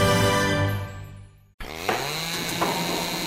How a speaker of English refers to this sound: And it's been a while since that drill's been out, I'll tell you.